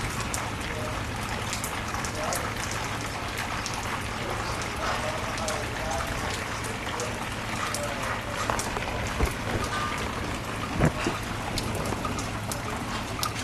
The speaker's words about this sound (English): Yeah, the storm is starting to calm down, I think.